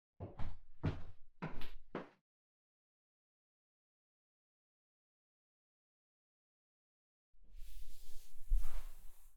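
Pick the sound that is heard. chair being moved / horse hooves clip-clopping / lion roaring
chair being moved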